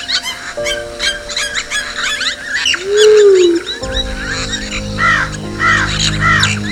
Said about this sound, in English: Above the waters, the skies too were filled. Birds took wing, their cries echoing across the earth.